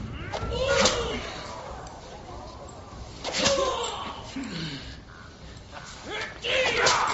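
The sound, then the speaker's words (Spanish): In a flogging scene from a Mel Gibson film, three sharp whip lashes crack at slow, spaced intervals, each followed by a pained vocal groan, while chains rattle softly underneath throughout. “Estamos escuchando esos latigazos, además se escucha también el sonido de las cadenas.”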